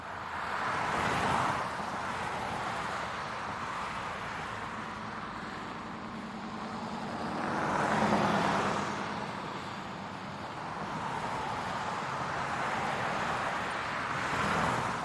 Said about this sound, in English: I want you to visualize this for just a moment. Imagine right now that there's traffic around you.